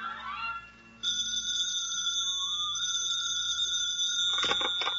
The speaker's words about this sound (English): The phone rings.